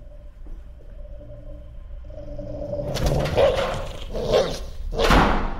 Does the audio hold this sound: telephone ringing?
no